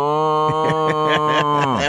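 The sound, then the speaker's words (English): A person imitates a cow's moo, as in the Do Your Moo contest at the State Fair, in one long, steady voiced drone that sags in pitch at the end, with no other talking. “But we used to do the Do Your Moo contest.”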